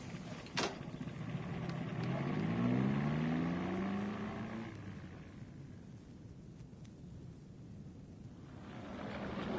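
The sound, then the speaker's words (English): A car engine rumbles as the car pulls up, its pitch climbing as it revs for a few seconds before settling into a low idle. A brief click sounds near the start, and no one speaks. “We'd better put the car away”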